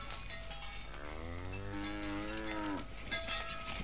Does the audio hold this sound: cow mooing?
yes